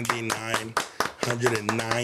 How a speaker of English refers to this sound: Oh my God, let's clap it up.